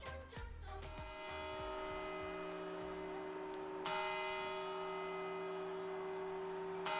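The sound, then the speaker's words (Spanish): A large bell of a historic clock tower chimes loudly, struck about four times at slow, uneven intervals, each deep resonant toll ringing on and overlapping the next, with no voices present. “Es un lugar castizo, es cruce y es mezcla de todas las culturas y todas las lenguas, y con sus cambios ha resistido perfectamente el paso de tiempo y, peatonalizada o no, sin las campanadas desde su reloj histórico, no empieza el año.”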